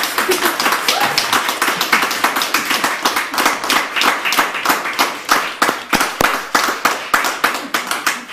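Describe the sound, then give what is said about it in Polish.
Several people in a studio clap steadily for performers after their first live show, a dense, rhythmic patter of hand claps that stays fairly loud throughout, with no voices over it. “A wy dzisiaj pierwszy raz, gratulacje, szacun, także oklaski dla was.”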